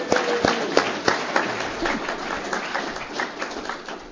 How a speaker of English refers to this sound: So if you're on the committee, thank you guys, man. Let's give the committee a round of applause.